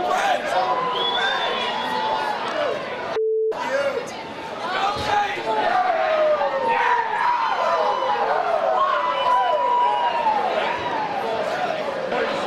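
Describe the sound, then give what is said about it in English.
A large crowd in Boston shouts and yells at a person, voices over one another in a loud, continuous roar, broken by one brief dropout with a short steady tone early on. “Enjoying all the people yelling at me.”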